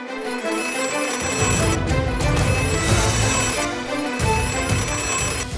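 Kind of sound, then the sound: signal or alarm, doorbell ringing insistently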